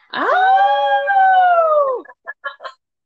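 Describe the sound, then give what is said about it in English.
A voice imitates a wolf howl: one loud, sustained howl lasting about two seconds that slides down at the end, followed by three short yipping bursts. “I need you to give me your best Wolf Pack howl.”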